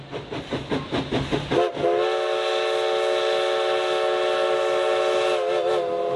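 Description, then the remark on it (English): A historic steam locomotive of the Oregon Coast Scenic Railroad on the Oregon coast chuffs in a steady rhythmic beat for a couple of seconds, then a loud, sustained steam whistle blasts and holds, with a slight wavering near the end. “The Oregon Coast Scenic Railroad is your opportunity to ride behind the living history of a historic locomotive engine along the beautiful Oregon coast.”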